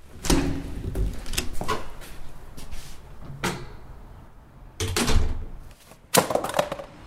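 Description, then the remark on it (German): Loose, wet sheets of paper tumble to the floor in several quick bursts of rustling and light slaps, with short pauses between the clusters and no voices. “Mist, alles runtergefallen.”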